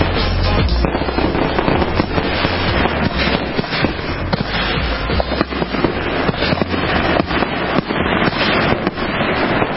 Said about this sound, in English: One last blast, a good one, of some fireworks, just in case you didn't get to hear those sounds. A lot of fireworks displays were canceled in some local towns and cities across the U.S., but then there were some spectacular ones.